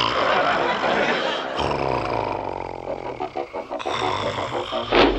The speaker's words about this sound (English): He never missed a snore.